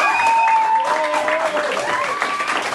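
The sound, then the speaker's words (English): A large crowd in Israel applauds steadily as Hamas releases six more hostages, dense clapping mixed with cheers and raised voices, loud and sustained throughout without a break. “Applause as Hamas released six more hostages today.”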